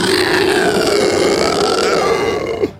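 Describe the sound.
A person voices the dying scream of a lindworm (dragon) that has just been slain: one long, loud, rasping, belch-like roar that holds steady for over two seconds, then breaks off with a short final gurgle.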